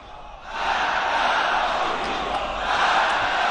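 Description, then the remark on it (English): A large crowd shouts together in a "Death to America" protest chant, a dense, loud roar of many voices that swells in after a brief quieter start and holds steady throughout. “Death with the US, that's what people are shouting.”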